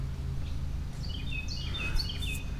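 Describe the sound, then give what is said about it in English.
Several birds chirp and trill, with overlapping high, quick calls clustered in the second half, over a steady low outdoor rumble; no one speaks. Heard from a bridge overlooking a turtle reproduction pond. “I hear a lot of birds. Birds are chirping at me.”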